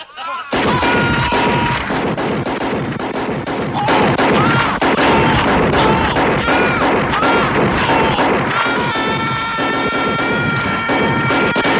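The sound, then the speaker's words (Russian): Rapid, heavy shotgun blasts from a scene of the film RoboCop, with several shotguns firing into a man's torso, pound almost nonstop for about twelve seconds, dense and loud, mixed with actor Peter Weller's anguished screams and sustained high-pitched tones in a chaotic film soundtrack. “Это и потом они начинают расстреливать его из всех дробовиков в его туловище.”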